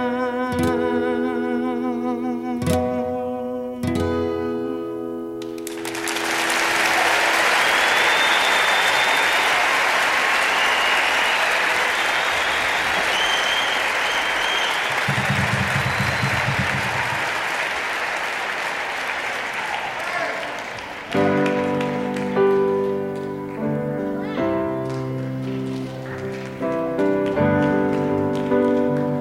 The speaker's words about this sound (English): I just realized some you people clap at the beginning of these piano songs, and I know for a fact that, because I don't play that good, I know all the introductions are all exactly the same.